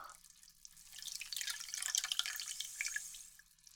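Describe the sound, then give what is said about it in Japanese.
Hot bath water sloshes and swirls as a hand stirs through it, a soft, steady fizzing splash with small drips, swelling in the middle and easing off, with no voices. “お湯を手で混ぜると、シュワシュワってして、気持ちいいですよね。”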